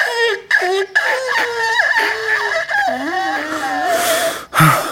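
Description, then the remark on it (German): A voice imitates a zoo elephant with a bad cold, lying weak in the elephant house, trying to trumpet when it sees the zoo director, its trunk sounding like a clogged tin watering can: a string of wavering, nasal, squeaky honks that bend up and down in pitch, with short breaks, ending on a breathy, sputtering blast. “Der Elefant versucht zu trompeten, als er seinen Zoodirektor sieht, den er so gerne mag.”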